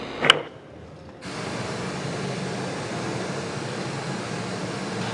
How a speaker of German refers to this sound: Lass mal das Rauschen auf links machen.